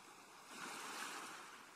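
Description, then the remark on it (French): Ocean waves wash onto the shore in a broad, hissing roar that swells to a peak midway and then slowly eases off, with no voices present. “Vous appréciez pour quelques minutes encore le bruit des vagues et des mouettes et la douceur de cette mer accueillante.”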